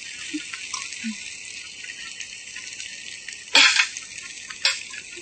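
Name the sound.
potatoes sizzling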